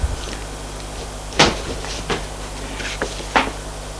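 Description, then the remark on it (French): A door opening: a sharp wooden clunk followed by a few lighter knocks and rattles spread over a few seconds, with quiet hum and no voices. “La porte s'ouvre.”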